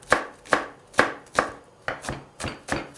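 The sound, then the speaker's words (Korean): A knife chops green onion for Korean braised radish (mu-jorim) on a cutting board in a steady rhythm, seven crisp, sharp thwacks about half a second apart, with no voices. “무조림에 넣을 파도 지금 같이 손질을 해볼까요?”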